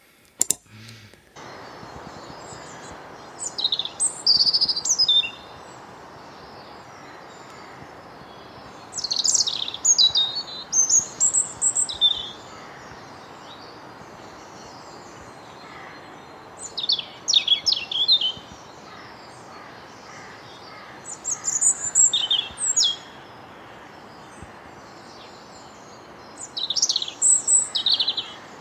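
A European robin sings in repeated high, tumbling phrases of thin trills and warbles, each burst a few seconds long with short pauses between, clear against a soft steady background hiss.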